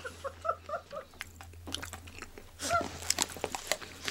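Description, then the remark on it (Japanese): Chewing of navy curry bread in a studio, with soft crunchy bites and wet mouth sounds repeating irregularly over a few seconds, no talking, a faint steady hum underneath. “すごい、もう本当に番組直後にもぐもぐし始めたらもうやりますって今言われて、 うん、 ちょっと慌てております。”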